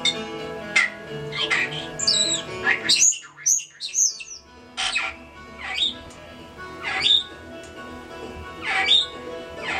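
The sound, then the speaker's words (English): A pet bird named Carmen chatters and sings in repeated short, bright chirps and squawks, fairly loud, over bluegrass music playing steadily underneath. “she just perks up as she starts singing and she starts chattering. And she gives her happy singing sounds.”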